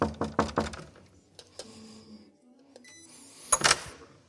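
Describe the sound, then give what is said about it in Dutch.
Four quick, sharp knocks on the door of the oldest resident, nearly 105 years old, on the second floor, in a steady rhythm, followed by a few softer clicks and a short, hissy rattle near the end. No one speaks. “Ja, we zitten nu op de tweede verdieping en we staan eindelijk voor de deur van onze oudste bewoonster”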